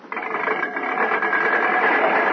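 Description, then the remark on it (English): A car engine runs with a steady, buzzing mechanical drone that swells slightly louder as it continues, a continuous whirring hum with no pauses, as the car is driven in for a demonstration. “Bring the car in.”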